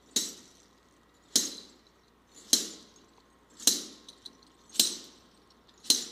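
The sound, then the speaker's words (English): A wooden staff with things attached to it strikes the floor six times at a slow, steady walking pace, showing how a shepherd banged his staff on the floor as he walked. Each sharp knock rings briefly with a bright metallic jingle, then fades before the next. “He got his staff and he banged it on the floor as he walked.”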